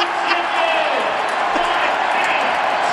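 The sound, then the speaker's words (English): A large arena crowd roars and cheers continuously because free chicken is on the line, a loud, dense wash of voices that holds steady for the full three seconds with no break. “Well, those boos turned to cheers when there was free chicken on the line.”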